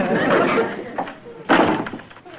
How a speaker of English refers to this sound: that dog is just scratching that door to pieces. I wonder why he's doing it.